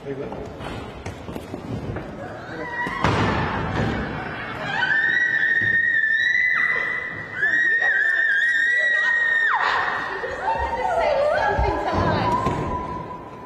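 A woman screams in long, piercing, high-pitched wails as she is pulled away from Governor Lee's office in Tennessee, amid a scuffle with thuds, hurried footsteps and crowd commotion, the shrieks repeating loudly over several seconds.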